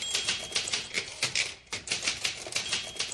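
Rapid, continuous clatter of a Smith Corona manual typewriter, a woman typing at astonishing speed, keys striking in quick succession with a brief pause midway, fairly loud with no voices.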